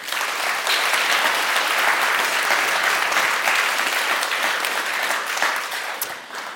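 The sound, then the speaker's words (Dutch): An audience breaks into sustained applause for a guest being introduced, a dense steady wash of many hands clapping at even loudness for several seconds before easing slightly at the end. “Geef haar een applaus.”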